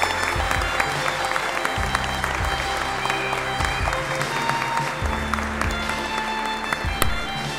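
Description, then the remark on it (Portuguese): Sustained audience applause for a military police sub-lieutenant at a ceremony of the Grupo Escoteiro Jean-Philippe Cousteau 173 in São Bernardo do Campo: dense, steady clapping from many hands at a fairly loud, even level throughout, with low thumps and a faint background murmur. “Uma salva de palmas ao subtenente da PM”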